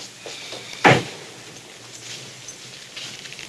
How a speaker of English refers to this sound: The taxi stops, and the man in fox hunt attire opens the car door.